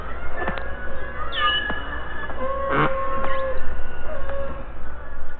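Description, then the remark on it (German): Beluga whale vocalizations: a lively mix of high squeaky whistles, rising and falling chirps, and sharp click bursts over a steady watery hiss, with no one talking. “Die Belugas aber, die könnten glatt jeden ozeanischen Gesangswettbewerb gewinnen.”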